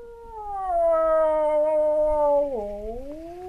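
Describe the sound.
A wildlife expert imitates a typical wolf howl in a remote Ukrainian village by the Polesia Nature Reserve near the Belarusian border: one long, sustained wavering cry that slowly falls in pitch, dips sharply near the end, then rises again, loud with no other sounds.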